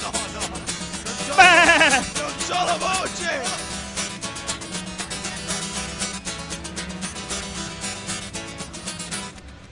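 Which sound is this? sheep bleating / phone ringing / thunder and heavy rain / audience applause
sheep bleating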